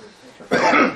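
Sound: coughing and throat clearing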